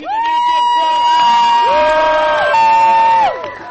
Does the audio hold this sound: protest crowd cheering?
yes